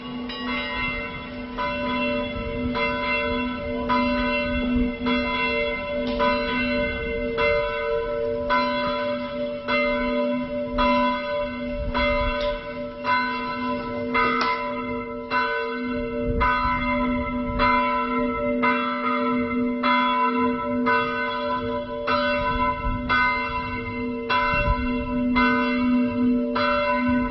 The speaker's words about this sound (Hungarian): És itt zengenek, bonganak a harangok, és nagyon emelkedett, nagyon szép légkör van itt Debrecenben.